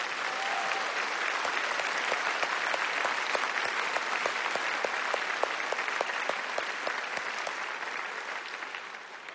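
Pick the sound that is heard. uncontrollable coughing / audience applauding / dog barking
audience applauding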